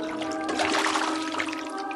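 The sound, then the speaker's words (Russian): A burst of splashing water as a bear dives into the cold sea, churning loudly for about a second before settling, with a steady tonal backdrop humming underneath. “Айда, пошли! Ныряй, поплаваем.”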